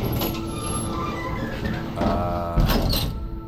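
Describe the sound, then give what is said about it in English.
The doors of an old elevator rumble and grind as they slide shut, a steady mechanical hum underneath, finishing with a solid thud as they meet, as the control panel lights up. Moderately loud, with no voices. “the doors close. Control panel lights up.”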